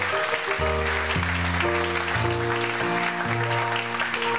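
An audience claps steadily and loudly throughout, a dense wash of applause, with sustained musical chords shifting underneath it.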